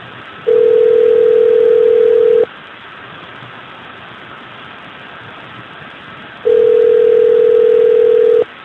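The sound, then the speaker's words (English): Two long, steady telephone tones, each about two seconds, separated by a pause over a constant hiss of phone-line static, as a call is placed about a menu. No one speaks. “Oh, I've got so many phone calls to Mando.”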